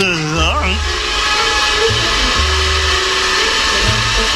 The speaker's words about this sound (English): Pumping Jehoshaphat! The distortion and feedback! That's the vacuum cleaner! Oh, yes, yes. So it is. The vacuum cleaner.